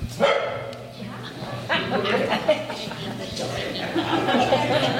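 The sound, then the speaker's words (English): A stray dog barks repeatedly in a series of sharp woofs inside a church in Vista Rossi during a residents' meeting on a very hot September day in 2023, with voices murmuring in the background. “On a very hot September day in 2023, the residents of Vista Rossi packed into a church for a meeting, joined by a stray dog who also happened to wander in.”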